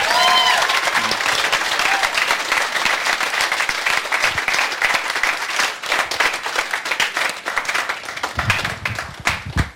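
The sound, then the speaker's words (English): A crowd claps steadily for several seconds for the mothers present, a dense wash of many hands applauding that thins into scattered claps toward the end, with a faint voice or two near the start. “Well, how about a round of applause for our mamas here?”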